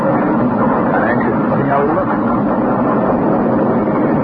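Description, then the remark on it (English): A train pulls into a station right on time with a loud, steady mechanical rumble and roar that fills the whole stretch, heavy, with no clear pauses. “Now, here's the train. Right on time.”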